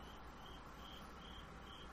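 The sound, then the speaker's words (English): A cricket chirps in steady, evenly spaced bursts against a quiet background hiss, soft, with no voices present. “I wonder if the sound of that cricket came across on the microphone.”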